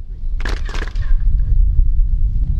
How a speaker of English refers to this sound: The pyramid at Chichen Itza towers over the landscape. Sound echoes as tour guides clap to demonstrate the extraordinary acoustics of the sacred place.